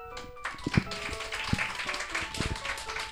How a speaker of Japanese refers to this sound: いやめっちゃ嬉しいですね拍手していただける のね。